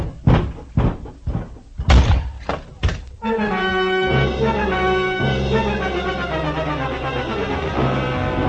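door opening and slamming

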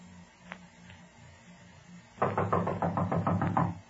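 knocking on a door

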